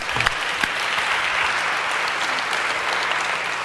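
Steady audience applause, given as a final round for a participant after a demonstration of an algorithm, fills the space, a dense wash of many hands clapping at a constant moderate loudness, with a few sharper claps standing out near the start.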